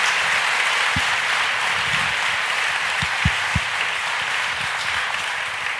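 A crowd applauds steadily, the dense clapping holding an even loudness throughout, with a few sharper individual claps standing out from the wash.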